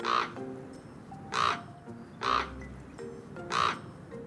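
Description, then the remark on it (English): A common raven calls four times, harsh hoarse croaks spaced about a second apart, clear against a quiet outdoor background with no talking. “That was actually a common raven.”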